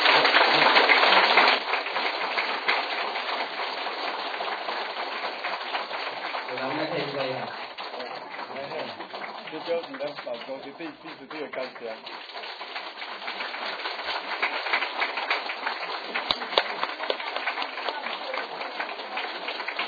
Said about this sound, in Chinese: 咱是再一次的掌声，对咱自己。